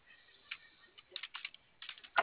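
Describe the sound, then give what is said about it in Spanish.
Someone types on a computer keyboard, a run of fairly soft keystrokes in an irregular rhythm, ending with a sharper, louder tap. No one speaks. “No, no prende el teclado.”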